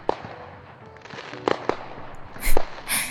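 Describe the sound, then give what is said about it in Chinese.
Fireworks pop and bang, a series of sharp bursts over a steady crackling hiss, with the loudest booms landing near the end. No one speaks. “最后的最后，那就祝我们有数不尽的烟花和一起度过的白色情人节吧。”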